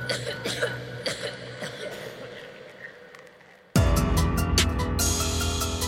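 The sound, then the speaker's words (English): Several scattered coughs sound over a few seconds, fairly quiet, before a sudden loud burst of dense noise abruptly takes over. “You also, if you have been around Slender Man too much, you get slender sickness and you start coughing.”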